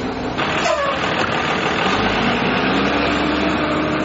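A school bus engine idles steadily for a few seconds, a constant low rumble under a dense, even wash of mechanical noise, with no talking.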